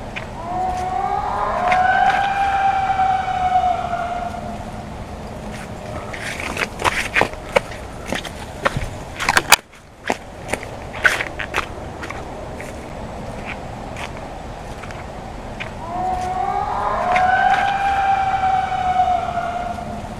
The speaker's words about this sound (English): Is the howling, yelling, screaming sound of Sasquatch.